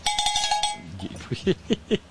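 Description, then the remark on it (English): A cowbell clanks out a quick, bright run of about six metallic hits in a crowd, then stops as several short voiced shouts follow in a ragged rhythm. “Is that a cowbell I heard in the crowd?”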